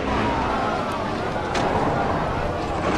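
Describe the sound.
An imported car's engine runs steadily, a continuous rumbling drone that fills the background with a dense, unbroken hum, with faint voices mixed in.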